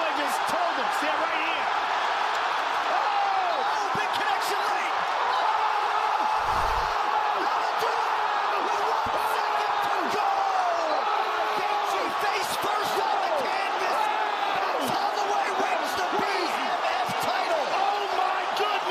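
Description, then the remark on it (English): A packed arena crowd roars and cheers at a UFC 300 fight involving Holloway, loud and unbroken for the whole stretch, with the announcers' voices barely audible beneath the din and occasional sharp thuds cutting through. “It's always a good sign when the crowd is so, well, unless you're rooting for the other guy, when the crowd is so loud that you can barely hear the announcers.”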